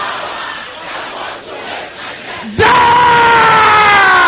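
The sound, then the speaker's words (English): A large crowd of voices murmurs and calls out, then bursts into a loud, sustained unison shout as an audience prays aloud together against any power that wants to waste their destiny. “Can I hear you shouting it loud and clear?”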